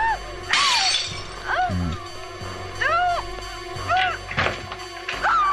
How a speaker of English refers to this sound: And Jamie Lee is about to smash the glass. Well, the patio door will have to be replaced.